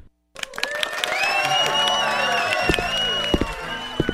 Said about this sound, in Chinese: 各位嘉宾，比赛就到这里，到底谁是第一名呢？让我们以最热烈的掌声请评审来公布。